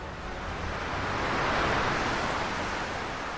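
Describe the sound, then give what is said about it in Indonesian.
A steady roar of strong wind and big surging sea waves near the shore in the morning swells to a peak midway and eases off slightly, a dense, continuous rush with no talking. “Namun angin disertai ombak besar datang.”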